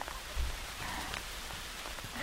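hail falling

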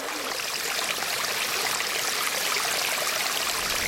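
flowing river stream

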